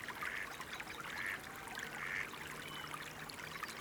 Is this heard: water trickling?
yes